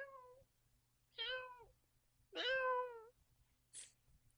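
A cat meows three times, each call a clear, drawn-out harmonic cry, the last the longest, followed by a brief high-pitched squeak.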